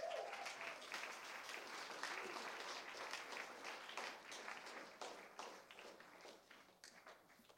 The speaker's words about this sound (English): Stand on your feet and I'll quit. Amen. Give Jesus one more big hand clap.